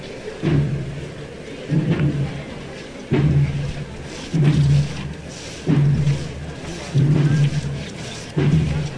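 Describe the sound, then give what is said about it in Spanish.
Many feet of costaleros, the float bearers of a Holy Week brotherhood in Lebrija, shuffle and scrape along the ground together in a steady, repeating rhythm, each heavy swish arriving about every second and a half, with a dull low rumble under each step, as they pass the sacristy of the parish of Santa María de Jesús. “El rachear de los costaleros.”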